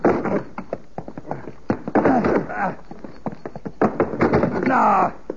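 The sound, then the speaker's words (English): Someone pushes and bangs on the locked door of a tool shed, trying to break it open: a rapid, irregular series of heavy thuds and knocks, mixed with straining grunts and effortful vocal noises. “That door won't budge.”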